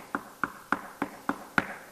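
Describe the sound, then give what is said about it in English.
Six crisp, firm knocks on a door, evenly spaced in a steady rhythm, each a short hollow rap at moderate volume, with no talking. “We're going to knock on the door. And when you knock on the door, don't knock like this.”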